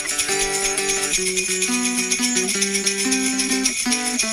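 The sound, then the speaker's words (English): A sleigh bell solo in a Christmas song: sleigh bells jingle in a bright, continuous shimmer while a simple stepwise melody plays underneath, held notes rising and falling at a steady, moderate loudness with no talking. “Sleigh bell solo”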